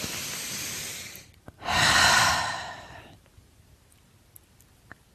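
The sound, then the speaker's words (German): Two long, deep breaths: a breathy inhale lasting over a second, a brief pause, then a fuller, louder exhale that fades out, followed by quiet. “also erstmal, meine Worte überschlagen sich, wir atmen.”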